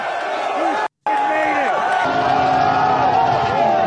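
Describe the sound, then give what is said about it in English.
A loud, dense crowd mobbing Sean Strickland roars and shouts continuously, cheering for him, many voices blending into a steady wall with overlapping yells, broken by one abrupt silent gap near the start. “They're all cheering for him.”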